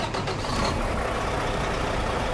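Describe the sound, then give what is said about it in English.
A new diesel truck, number 107 of Northeast Southwest Trucking, is started and runs: a loud, steady rumble with a broad hiss over it, holding constant throughout with no voices. “Gary Holland of Northeast Southwest Trucking is showing off one of his new diesel trucks.”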